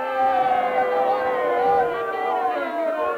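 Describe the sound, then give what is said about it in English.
A large crowd at a world championship boxing match roars continuously and loudly after a boxer is knocked down and saved by the bell in the first round, a dense wall of many voices cheering and yelling together without pause, with a muffled, old-recording quality. “Listen to that crowd.”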